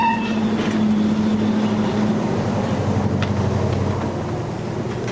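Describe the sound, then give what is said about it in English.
A truck engine rumbles, a whining tone fading out as it slows, then settles into a steady low idle as it stops at JD's garage in town, in fog and light snow, with no voices. “She stops at JD's garage.”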